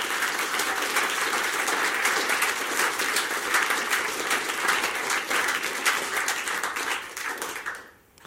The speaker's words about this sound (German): Einen grossen Applaus diesen Gastgeber.